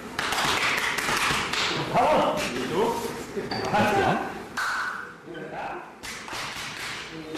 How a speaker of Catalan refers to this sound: De fet, els cops aquests que escolteu no és que estiguin apallissant a ningú, és que, com ja sabeu, per mantenir la seva masculinitat ferma s'han de pegar molt fort l'un a l'altre quan s'abracen a l'esquena